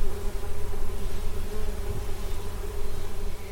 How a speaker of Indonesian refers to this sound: Aku juga suka melihat lebah-lebah berterbangan di kebun.